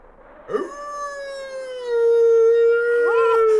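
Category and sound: animal, wolf howling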